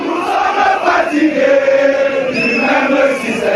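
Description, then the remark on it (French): A crowd of several thousand supporters in front of the MRC party headquarters, under a blazing sun, sings together in praise of their leader Maurice Kamto, a loud, sustained chant, many voices blending into a steady swelling roar with a few higher voices rising above the mass. “Au fil des heures et sous un soleil de plomb, ils étaient plusieurs milliers à chanter à la gloire de leur leader.”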